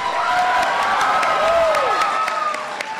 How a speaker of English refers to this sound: An enthusiastic crowd of about 400, many of them familiar faces, welcomed President Obama back to Chicago.